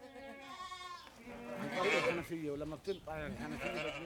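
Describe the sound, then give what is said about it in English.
Several goats bleat in quick succession in a backyard in Hebron, their wavering cries overlapping and filling the whole stretch with steady, moderately loud calls. “tends his goats from his backyard in Hebron.”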